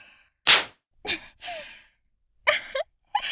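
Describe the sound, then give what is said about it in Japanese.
A single sharp, loud whip crack snaps near the start, followed by a few breathy gasps and sighs from a voice. “素敵な音。どうですかこのムチ。”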